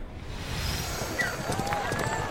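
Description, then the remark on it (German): Black horses gallop pulling a chariot in a chariot race held as funeral games, a rapid, steady drumming of hooves, loud, with a busy wash of crowd noise and indistinct voices mixed underneath throughout. “Wie die schwarzen Pferde flitzen? Der Wagenlenker ist klasse. Was für ein Rennen.”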